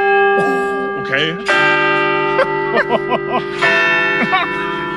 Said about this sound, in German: Okay. es ist 8:45. Drei Glockenschläge.